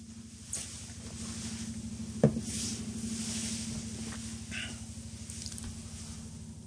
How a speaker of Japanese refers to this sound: ヘリコプター飛んできましたよ。